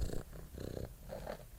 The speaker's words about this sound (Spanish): El gato. The cat. El gato.